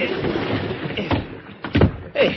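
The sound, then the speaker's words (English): Someone is hauled into a boat: a few heavy thuds and bumps against the hull, with scraping and shifting weight over a steady background wash of water, fairly loud. “Give me a hand up, will you? Pull me in the boat.”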